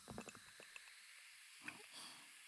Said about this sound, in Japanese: こっちの耳元にもコップを置いて、シュワシュワシュワ。